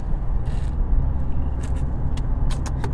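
food or drink, sipping coffee

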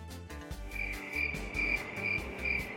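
insect, crickets chirping sound effect

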